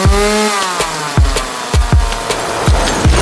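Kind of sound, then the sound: tool, saw cutting wood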